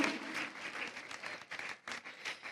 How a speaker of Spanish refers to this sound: Ah, charanga … de Cartagena. Un fuerte aplauso.